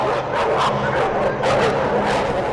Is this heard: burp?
no